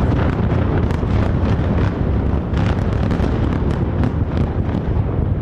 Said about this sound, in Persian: تنها در طی ساعات گذشته در شامگاه یک شنبه نیروهای اسرائیلی حملات خود به حومه بیروت را از سر گرفتند و آسمان این شهر از نور انفجارهای پیاپی روشن شد.